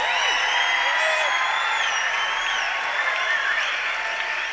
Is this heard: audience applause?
yes